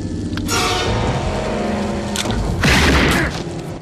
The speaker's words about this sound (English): Karen shoots Chucky again. He teeters, knife raised.